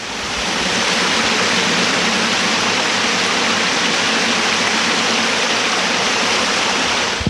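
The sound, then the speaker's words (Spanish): Rainwater gushes steadily into a street storm drain that has trash in it, a loud, continuous rushing and splashing that holds constant throughout, heard close by with no voices. “Estamos al lado de un sumidero de agua lluvia, tiene basura, pero cae bastante agua.”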